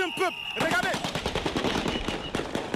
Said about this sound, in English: He is interrupted by gunfire. Members of the Presidential Guard drove by in vehicles, firing in the air to disperse people.